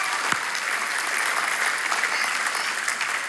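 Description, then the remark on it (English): An audience gives another round of applause for Jesus, a dense wash of many hands clapping at an even, sustained loudness with no voices standing out, continuing without a break for the whole stretch. “Come on, that's worth giving Jesus another round of applause for.”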